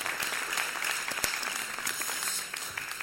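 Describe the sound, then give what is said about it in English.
An audience applauds a volunteered family, parents and teenagers, coming up to the front: many hands clapping in a dense, crackling wash with a few sharper individual claps standing out, holding at an even moderate level throughout. “Give them a round of applause, particularly the teenagers.”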